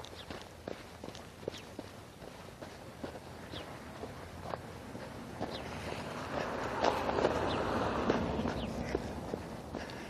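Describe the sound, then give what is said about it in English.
Footsteps crunch steadily on icy snow on a sidewalk, a regular walking rhythm of sharp, gritty crunches, with a hissing background wash that swells louder in the second half. No one speaks. “Crunch, crunch.”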